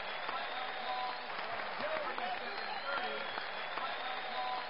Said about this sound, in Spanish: Una ovación cerrada dulcificó el paso hacia la otra vida